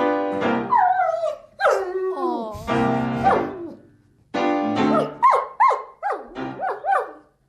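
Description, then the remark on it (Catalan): A German shepherd named Milo, known as Mr. Blue Dogs, howls along to its owner's piano playing in long, wavering, rising and falling cries, breaking into a run of short, sharp yelps toward the end, loud. “Doncs això, el que us deia, és un pastor alemany i estaríem davant del … del Regne Animal.”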